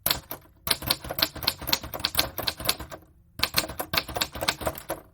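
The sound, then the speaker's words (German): Rapid mechanical clacking of typewriter keys, struck in quick irregular bursts with two short pauses, fairly loud, with no voices. “Genau, es ist die Schreibmaschine.”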